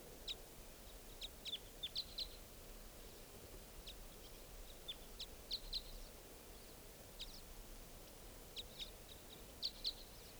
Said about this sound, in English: Either type 3 or type 5 birds are here, and it's 8:08 a.m. Pointed at the type 5. There are 4 birds here, at least.